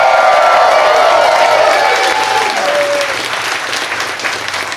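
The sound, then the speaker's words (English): Loud, sustained applause from a live audience at Esther's Follies in Austin, Texas, during South by Southwest: a dense wash of clapping with scattered cheers and whoops, while a faint tonal whistle or feedback line glides briefly underneath. “Whenever the audience clapping doesn't match up with the song, we just put the song in clean.”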